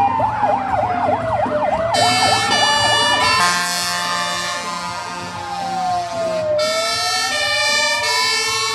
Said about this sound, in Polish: jeżeli Straż Pożarna jedzie na sygnałach dźwiękowych i świetnych, to znaczy, że jedzie do konkretnego jakiegoś zdarzenia losowego